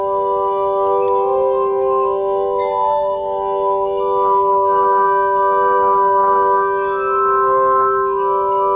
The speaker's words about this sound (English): there's a flywheel at the end that kind of looks like an old spinning wheel, and I'm working that with my foot under the table. So when I get my fingers wet and when they're really clean, I can hold all of my fingers on the glasses and...